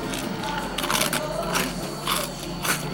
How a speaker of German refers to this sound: Die Cornflakes müssen aber auch den Eldoradio-Knuspertest bestehen.